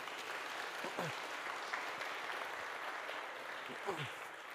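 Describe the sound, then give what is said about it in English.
People clap steadily for several seconds for others as they go back, a dense, even patter of hands, with a few voices calling out briefly beneath the applause. “Give them a clap as they go back.”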